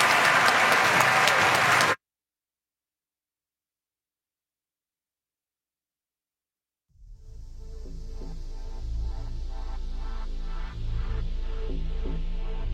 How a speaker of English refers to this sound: So let's give a gigantic round of applause to Speaker Nancy Pelosi.